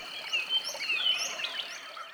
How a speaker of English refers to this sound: The San Francisco artist created a soundscape underneath the Jones Street Bridge. I asked him to describe what people hear there. They hear a changing mix of indigenous birds from the wetland habitats